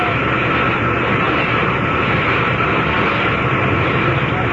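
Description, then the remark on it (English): A big helicopter comes down at a village to pick someone up, a loud, steady wash of engine and rotor noise that fills the whole clip without letting up, with no voices. “Until Zaslow came down to get me in a big helicopter.”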